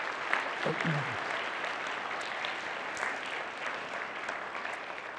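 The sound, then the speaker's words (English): Steady audience applause from a church gathering fills the whole stretch, a dense, even patter of many hands clapping at moderate volume, with a brief low vocal sound or shout near the start. It is a round of applause thanking the team that ran the church's fall festival for years. “and I think they deserve a big round of applause.”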